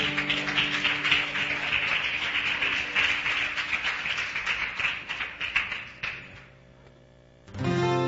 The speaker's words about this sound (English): Amen. Give a little round of applause, saints.